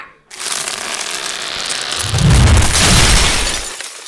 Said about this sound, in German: Wahnsinn. Und jetzt hat man es auch gehört und gesehen, der Baum, brutal, der hier umgefallen ist.